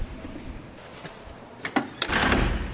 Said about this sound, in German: Unser Zeitportal ist die Tür des St. Annen-Museums im Museumsquartier. Und das findet ihr in der St. Annenstraße 15. Guten Tag. Hallo. Hallo. Und durch diese Tür gehen wir jetzt hindurch.